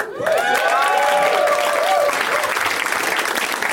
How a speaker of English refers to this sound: That applause would build up to a much bigger crescendo if he actually walked out right then.